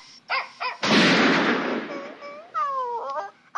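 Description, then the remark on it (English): Short, high cries come first, then a single loud gunshot blasts out and rings briefly. A series of high, falling whimpering yelps from a dying dog follows. “A dog dying noise after the gunshot.”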